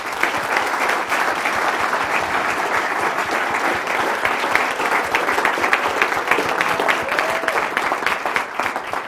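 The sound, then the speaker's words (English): Sustained audience applause for three speakers at the close of a talk session: a dense wash of many hands clapping at a steady, loud level for about nine seconds, with no voices standing out above it. “So a round of applause for the three speakers.”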